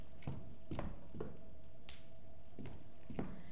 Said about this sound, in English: I'm going to grab a sip of water.